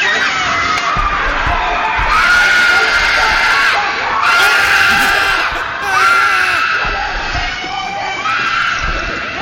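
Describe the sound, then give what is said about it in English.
A little girl actress in a film clip screams loudly and shrilly in three long, piercing bursts, dominant over a busy, noisy background with other voices. “Listen to this little girl scream. She has the best scream.”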